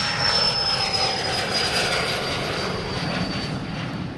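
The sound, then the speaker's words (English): A DayJet Eclipse 500 twin-turbofan light jet takes off from the tarmac at Boca Raton, its engines roaring steadily with a broad rushing noise and a thin high whine running through it, loud and continuous with no voices. “At one of the company's seven day ports, this one in Boca Raton, Iacobucci is out on the tarmac watching the takeoff of a plane that's made his vision possible, the Eclipse 500.”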